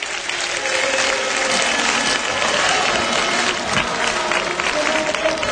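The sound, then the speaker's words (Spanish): A stadium crowd of football fans sings the club chant "el decano de mi alma" while the players applaud steadily, a dense, continuous wash of clapping and voices that stays loud and even from start to finish, in the stands of the Pérez Ureba ground in Conil as the players come out before a match. “De momento que saltan los jugadores de azul y blanco, mientras que el Conil viste con su camiseta habitual, con una camiseta amarilla, y la afición que canta el decano de mi alma mientras que los jugadores aplauden.”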